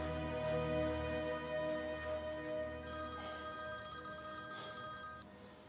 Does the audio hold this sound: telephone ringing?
yes